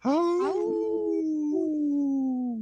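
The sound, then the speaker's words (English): People imitate a wolf howl together: one long, loud, sustained wail that starts bright, then slides gradually lower in pitch, with a slight wobble partway through. “Ooh, that was a weird howl from me. We were in harmony there.”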